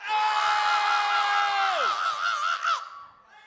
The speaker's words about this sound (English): Now, when we ask y'all to scream, y'all need to scream at a loud pitch. Let's try that. Scream.